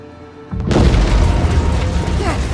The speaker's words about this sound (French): Une explosion! À bord de mon vaisseau! Ça doit être mes copains qui font jojo avec.